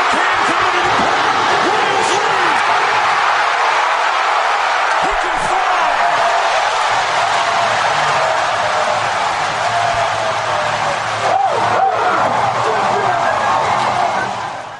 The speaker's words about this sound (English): Listen to that effing crowd. Oh. How great was that?